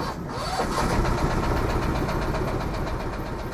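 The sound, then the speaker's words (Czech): A ferry boat in Prague, crossing the river to the Smíchov embankment (Smíchovská náplavka), runs its engine steadily, a dense low rumble with a faint rhythmic throb that holds at an even loudness for the whole stretch, with no voices. “No a když sebou trošku hodíme, tak myslím, že stihneme i přívoz.”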